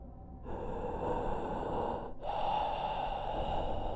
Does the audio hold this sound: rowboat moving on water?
no